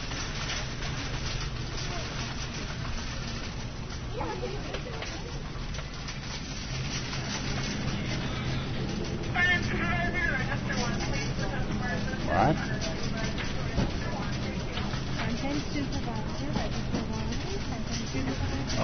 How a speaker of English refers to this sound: I did want you to hear the car and some of the cart noises to see what that did to the limiter. And it's reasonable.